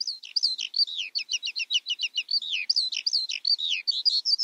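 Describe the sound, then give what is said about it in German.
A lark sings a rapid, continuous stream of high chirps, trills and warbling notes, bright with no pauses or voices. “Ja, schnelle Lerche.”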